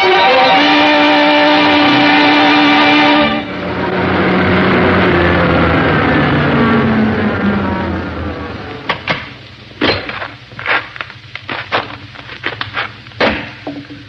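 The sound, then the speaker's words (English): A car engine is started and whirs with a steady hum, then roars into a loud rev that sweeps down in pitch as the car drives on, followed by a run of sharp, irregular bursts. “Well, let's get this car started.”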